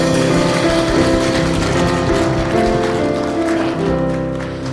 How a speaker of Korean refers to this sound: 시작이시자 또 나중 되실 하나님 우리가 영원히 다스릴 하나님께 정말 영광의 박수를 올려드리기 원합니다.